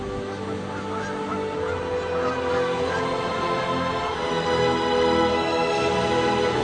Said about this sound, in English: Thanks to these intelligent tactics and concerted behavior, whales are easily able to catch fish. Naturally, birds also join in the feast.